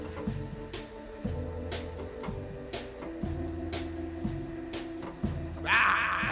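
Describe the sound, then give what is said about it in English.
A tape delay thumps in a steady, repeating rhythm, soft knocks and clicks roughly every second over a low mechanical hum, with a brief brighter rattle near the end. “There's a thumping sound of the tape delay.”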